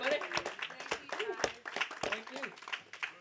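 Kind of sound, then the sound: crowd, round of applause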